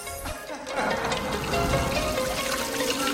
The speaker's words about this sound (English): the fizzy drink drips onto the floor between her legs, making it look as if she's wetting herself.